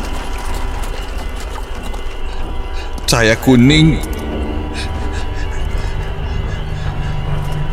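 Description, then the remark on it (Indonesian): Steady horse hoof clip-clops under a continuous noisy bed, with a short loud horse whinny rising and falling near the middle. A voice speaks briefly; any bells are not clearly distinct. “Semakin jelas terdengar sekali ku dengar suara kuda dan suara lonceng itu, seperti ada yang turun dari dalaman itu.”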